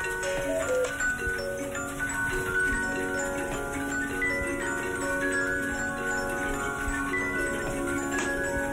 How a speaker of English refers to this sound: The air fills with the sounds of 300 antique clocks in Doyle's workshop